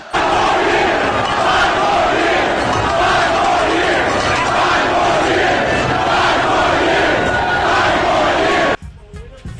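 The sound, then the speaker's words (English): A large crowd of fans at the Raptors' NBA championship parade in Nathan Phillips Square chants "five more years" at Kawhi Leonard, a chant Kyle Lowry got going. The chant is loud and sustained, with rhythmic pulses of voices over steady roaring noise, and cuts off abruptly near the end. “All right, so that was a chant that Kyle Lowry got going. The fans yelling five more years at Kawhi Leonard.”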